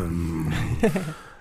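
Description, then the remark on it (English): A person vocally imitates a growling stomach with a low, rumbling growl lasting about a second, rising into a brief throaty gurgle before trailing off, fairly loud. “And when I listen to my growling stomach, it makes like...”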